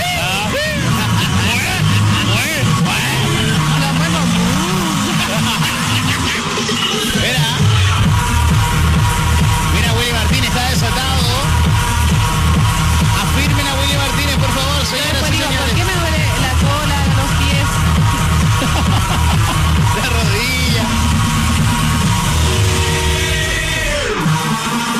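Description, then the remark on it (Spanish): A dense crowd murmurs continuously at a busy outdoor town festival in Los Muermos, voices blending into a loud babble over a steady, low rhythmic thumping throughout. “La previa, señoras y señores, se vive la fiesta en Oye, los muermos. Y la gente, en cuanto a cantidad, sí se fueron hartas personas, pero igual está lleno.”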